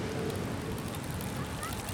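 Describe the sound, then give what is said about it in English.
A loud, continuous drone hums from the Golden Gate Bridge, heard from a beach with the bridge at its far end, a steady, slightly honking tone that holds without a break over gusty wind noise, with no voices. “It seems to be coming from the Golden Gate Bridge, which is at the far end of the beach, past it actually.”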